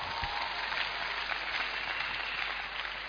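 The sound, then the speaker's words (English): A steady wash of audience applause, many hands clapping together in a dense, even roar that holds at a constant level for a few seconds with no voices. “that one kills the trust you have on clap, that person. Clap.”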